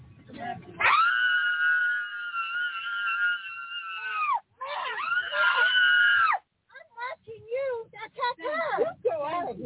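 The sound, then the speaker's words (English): A woman on an airplane lets out a long, loud, sustained scream, pauses briefly, screams again, then breaks into shorter wailing cries and sobbing sounds, intense. “Are you going to get off the aircraft, or are you going to sit there and scream?”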